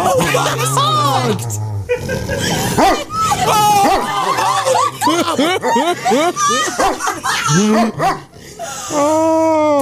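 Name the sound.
dog barking and yipping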